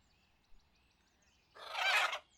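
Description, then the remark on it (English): A giant crow named Rags gives one loud, harsh, raspy caw lasting just over half a second, breaking an otherwise quiet stretch with only a faint tap before it. “This is my giant crow, Rags. She's always suspicious of strangers.”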